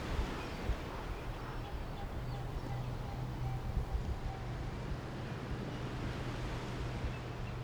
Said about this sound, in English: It's calm on the left, but in the distance you can hear the waves breaking against the rocks.